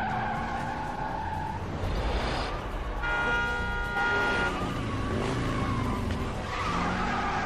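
A hacked car with malware in its engine control unit races along unable to slow down, stuck at 80 km/h in third gear with the gas pedal jammed; loud, steady engine roar, screeching tire skids and a brief horn toot, sounding fast throughout.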